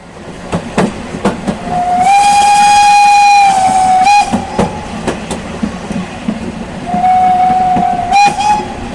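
A train rumbles and clatters while a loud steam whistle blows twice: one long blast, then a shorter one near the end, over rhythmic clanks from the rails.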